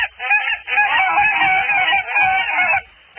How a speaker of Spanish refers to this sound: Más o menos sería como esto, como el graznido de los gansos. Sí, más o menos.